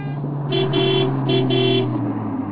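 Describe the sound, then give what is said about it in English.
A fast car on the street rumbles steadily while its horn sounds four quick honks in two pairs, loud and clear over the engine noise. “Oh, I can't cross the street. The car is very fast.”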